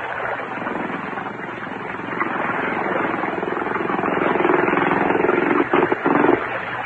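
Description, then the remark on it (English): A motor tender boat's engine drones steadily with a low, buzzing hum that grows gradually louder as the tender approaches, then briefly stutters and dips a couple of times near the end. “Oh, here comes the tender.”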